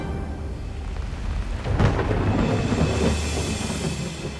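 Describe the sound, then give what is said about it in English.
Steady rain hisses over a deep, rolling rumble, and a loud thunderclap breaks in near the middle before the storm settles back into a continuous roar. No one speaks. “Well, that scene posed its own challenges, because it's set during a storm.”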